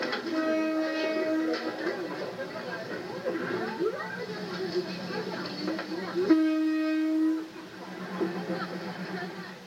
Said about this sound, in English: Every day, 20 trains pass through at a speed of just 30 kilometers per hour. When a train approaches, merchants quickly clear their stalls to make way.